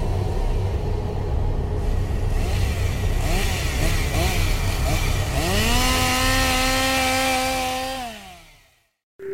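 A loud chainsaw engine, wielded by a chainsaw maniac at the Haunted Overload attraction in Lee, New Hampshire, idles roughly, then revs up sharply to a high whine and holds before cutting out abruptly near the end. A voice is faintly present underneath.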